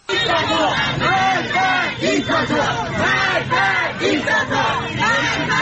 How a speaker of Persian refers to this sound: تصاویری که در شبکه‌های اجتماعی منتشر شده گروهی از معترضان را نشان می‌دهد که شامگاه شنبه در مشهد شعارهایی از جمله مرگ بر دیکتاتور سر می‌دهند.